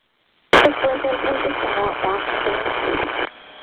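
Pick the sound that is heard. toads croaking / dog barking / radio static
radio static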